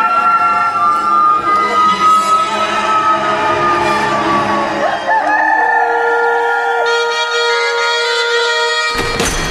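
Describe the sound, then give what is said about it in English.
A rooster crows loudly, one long drawn-out cock-a-doodle-doo with a rising then falling, strained pitch that holds for several seconds before cutting off abruptly. “And at once, a rooster crowed.”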